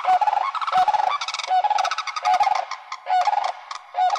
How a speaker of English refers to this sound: Some sandhill cranes mate for life. They use a unison call like this to set them apart from other pairs.